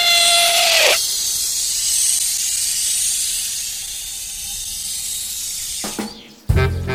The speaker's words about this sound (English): I'm so sorry, said Christopher Robin, and fired again. And this time, he hit the balloon. And the air came slowly out, and Winnie the Pooh floated down to the ground.